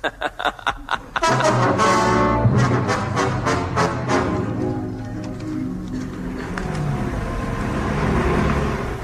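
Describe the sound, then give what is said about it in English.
A heavy lorry engine chugs in a few quick sputtering bursts, then roars into life and revs loudly and steadily as the vehicle drives off, with no talking. “Nitroglycerine? A lorry? Yes.”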